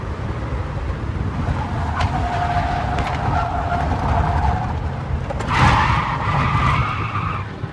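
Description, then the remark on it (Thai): Tires screech as a car brakes hard and skids across the road, a long squeal followed by a sharper, louder skid near the end over a steady engine rumble. “ใครดูหนังตำรวจขับรถไล่จับผู้ร้ายบ่อยๆคงคุ้นเคยกับเสียงรถเบรกล้อรถครูดไปกับถนนอย่างนี้นะครับ”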